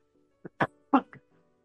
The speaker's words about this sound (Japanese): ちょっと今、咳が出かけてるんですが、すいません。ちょっと一回咳しますね。